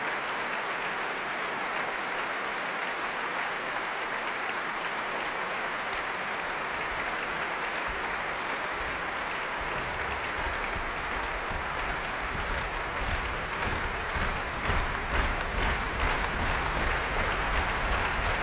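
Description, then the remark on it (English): A large concert audience applauds steadily and loudly; partway through, low thumping foot stamps join in and the clapping turns into a rhythmic, slow unified beat, urging pianist Lars Vogt back onto the platform. “Feet stamping, slow hand clapping to urge him back once again onto the platform, and here he comes.”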